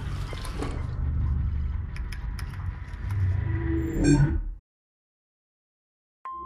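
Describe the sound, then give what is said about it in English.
Water pours steadily into a glass for about four seconds, a rushing splash whose pitch rises as the glass fills, then stops abruptly into silence. “Just water, then.”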